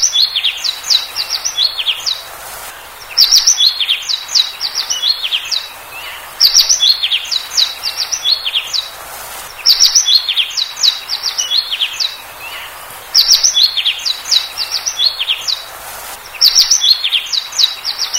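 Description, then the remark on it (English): A finch sings alone, bright, in quick twittering phrases that repeat every few seconds with short pauses between bursts of high, rapid chirps. “the finch.”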